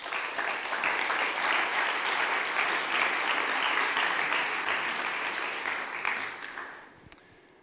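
A crowd applauds steadily with dense, crackling clapping for about six seconds, then the clapping thins and fades out, ending with a single sharp clap. No one speaks.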